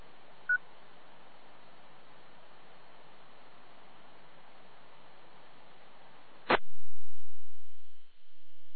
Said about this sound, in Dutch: Ik krijg telefoon, geloof ik.